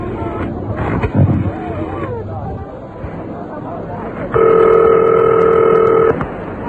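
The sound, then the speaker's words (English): A telephone is being dialed: a loud, steady electronic tone with two blended pitches holds for nearly two seconds, after murky background murmur and clatter. “I'm going to phone you something now. Phone's over there.”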